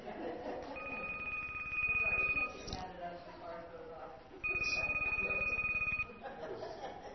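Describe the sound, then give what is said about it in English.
A phone rings in two long, buzzy bursts separated by a short pause, fairly loud, while low voices and a bit of chuckling carry on underneath during a class. “Let it ring itself out, and whoever it is, I'll call back.”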